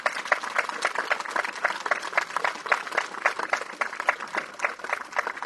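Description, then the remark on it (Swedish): Steady audience applause fills the whole stretch, a dense patter of many hands clapping at an even, moderate level with no voices over it. “Jag tycker att det krävs ytterligare en applåd för att lyfta fram detta.”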